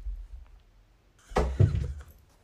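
A few soft, low thuds land in quick succession after a quiet rumbling start, footsteps of someone running through a flat to answer the door for a delivery, then fade out.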